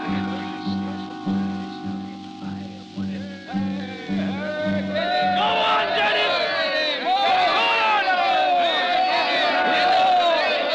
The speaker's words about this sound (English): He's speaking tonight. A meeting in the square. He's speaking to the crowd.